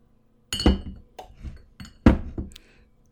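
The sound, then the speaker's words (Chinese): A red wine bottle and glasses clink and knock together as the wine is brought over, a handful of bright, irregular taps over about three seconds, with no one talking. “姐夫怎么把酒给拿过来了？”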